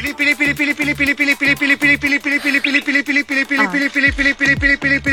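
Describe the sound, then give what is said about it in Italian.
Hens cluck in a loud, rapid stream of short, repeated pulses with a steady rhythm over about five seconds, joined by a few deeper low thumps toward the end. “Sentiamo, come si chiamano le galline?”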